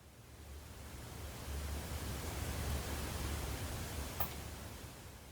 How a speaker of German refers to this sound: Hör die Bewegung des Wassers.